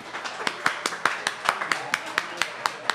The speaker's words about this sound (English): And I want you to give yourselves a round of applause because this has been a wonderful conversation tonight.